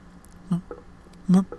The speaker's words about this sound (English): It didn't ring, but immediately she heard the sound of water again. Not hissing, but trickling and dripping gently, almost soothingly.